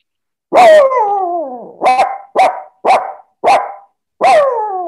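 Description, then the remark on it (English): An actor doing an animal impersonation imitates a dog barking, starting with a long drawn-out howl-like bark followed by five short, sharp barks in a steady rhythm, loud, with no talking. “So I do animal impersonations. I copy a lot of animals. I like doing animal sounds. I'm a better dog.”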